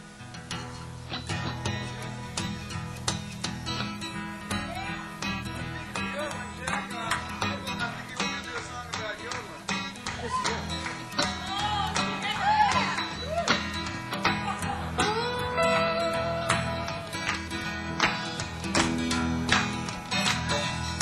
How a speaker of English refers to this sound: Gonna play another slow music.